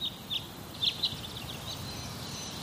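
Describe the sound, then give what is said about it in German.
Repeated short bird chirps ring out around a steady high pitch, scattered irregularly over a soft, constant background hiss, fairly quiet, with no voices. “Und was denkt ihr, wenn ihr dieses Vogelgezwitscher hört?”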